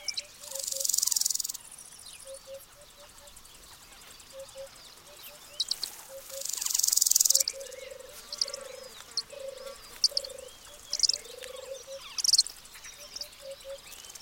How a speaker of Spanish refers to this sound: En un rodal abierto en el pasto, los pollos de Aguilucho Cenizo reclaman alimento mientras sus padres regresan de la caza.